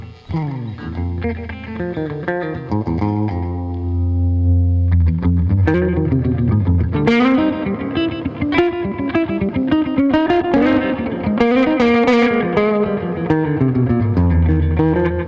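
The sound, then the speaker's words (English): An electric guitar plays a melodic riff with a short, subtle slapback delay doubling each note, bright, steady and continuous with no talking over it. “They kind of do the same thing, but this one we've been using for more like, again, I don't like them to be that noticeable, so this one was just used to get a little bit of slap back.”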